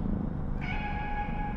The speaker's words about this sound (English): Meow for me, kitty.